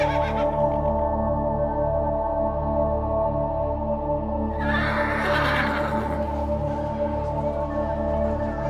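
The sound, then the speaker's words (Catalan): Menorcan horses neighing on Menorca during a Menorcan horse week, with a loud, breathy whinny bursting out midway through, set against a steady, droning tonal background that runs from start to finish. No one speaks. “Aquests són els cavalls que estan per aquí gaudint també d'aquesta setmana del cavall menorquí”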